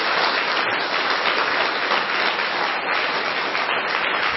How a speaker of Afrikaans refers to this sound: Gee hom nog 'n hande klap nie.